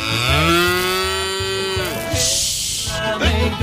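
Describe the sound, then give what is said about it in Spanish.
A cow named Matthew gives a long, loud moo, a sustained droning low, followed by a brief breathy snort and the start of a second short moo. “Que es vaca, pero se identifica como toro.”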